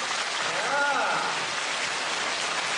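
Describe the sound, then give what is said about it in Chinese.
Dense, steady applause from an audience clapping to encourage the host, Director Lu (卢台长), a continuous crackling wash of many hands clapping, with a brief rising-and-falling vocal cheer early on. “现在路上的啊，还要把你们当成1000人在鼓掌的掌声”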